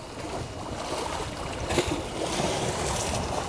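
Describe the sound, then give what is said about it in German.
Lake waves slap and splash hard against a shoreline built up with masonry, damaging it, in a steady wash of rushing noise, with a few sharper surges breaking through, moderately loud, no voices. “Wellen, die hart gegen das mit Mauerwerk verbaute Ufer schlagen und es zerstören”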